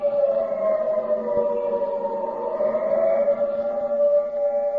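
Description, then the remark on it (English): An air raid siren wails steadily and loudly, its sustained tone holding and gently swelling throughout, with no one speaking. “The siren is a musician of no value, knowing only one tune, which each time played is a disturbance of the peace.”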